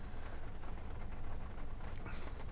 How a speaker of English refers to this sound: The rain started coming down here. I'm sure you hear the pitter-patter of raindrops on the F-150 mobile studio.